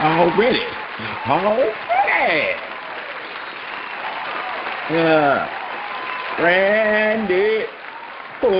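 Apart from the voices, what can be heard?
studio audience applause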